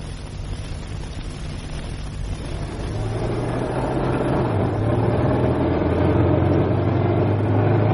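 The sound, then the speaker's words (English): The engine of an old car named Genevieve runs with a low, uneven, rough rumble, swelling a little louder after the first few seconds and holding a steady, rough drone with no voices. “Sounds a bit rough, doesn't she?”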